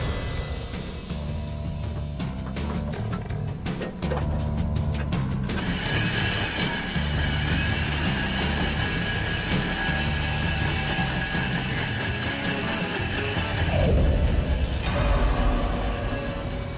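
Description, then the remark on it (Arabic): A heavy drilling rig grinds steadily into jasper bedrock, going slower than expected, only 1.5 metres deep after six hours; a continuous loud mechanical roar with rhythmic low thumping and clanking, swelling louder near the end. No one speaks. “يسير الحفر ببطء أكبر من المتوقع.”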